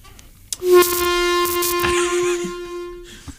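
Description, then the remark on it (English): An air horn sound effect: a single loud blast holds one steady, low, brassy tone with a buzzy edge for over two seconds, then cuts off abruptly. No one speaks. “Yeah, that's what I found for air horn.”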